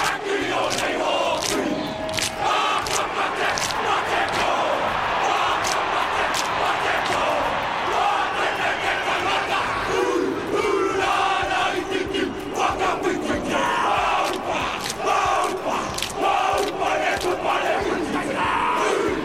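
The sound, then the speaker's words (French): A Maori haka: a group chants and shouts forcefully in rhythm, with sharp hand claps and slaps on thighs punctuating the loud, sustained group voices throughout. “Tu as reconnu ces drôles de bruits, ces cris, ces battements dans les mains, sur les cuisses?”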